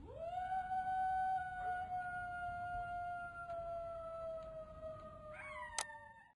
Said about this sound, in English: Poor Dog Dingo sits down and howls.